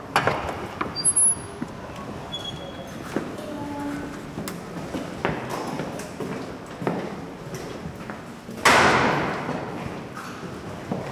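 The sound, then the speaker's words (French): A door opens and people shuffle in, with scattered thuds, creaks and footsteps in a room, and a louder bang near the end. Nobody speaks. “La porte est ouverte.”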